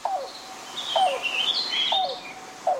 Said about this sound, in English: The call of the yellow-billed cuckoo may sound a bit like a car engine struggling to turn over before revving to life. But for generations and generations, people recognize these rattling gulps and hollow hoots as a precursor to something else. Rain.